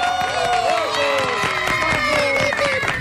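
A crowd claps and cheers steadily, a dense wash of hand claps with shrill whoops and shouts rising over it throughout.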